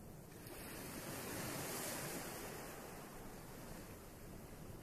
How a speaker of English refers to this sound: The more you listen, the more you relax. As you are stood there listening to the sound of the waves